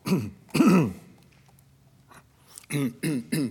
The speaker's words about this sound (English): Clearing my throat here.